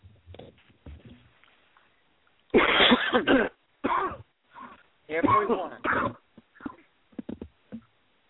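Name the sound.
people coughing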